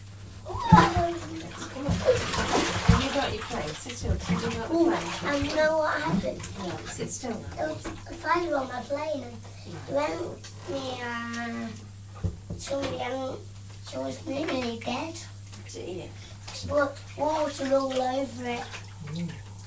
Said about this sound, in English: Come on, let me get the hands washing.